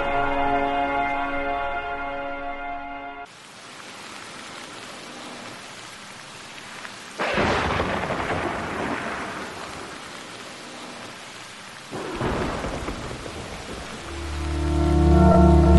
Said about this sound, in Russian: Шел ливень, жесткий и громкий.